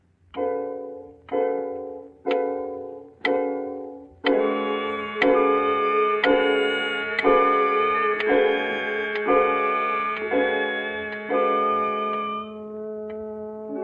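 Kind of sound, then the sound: household object, clock ticking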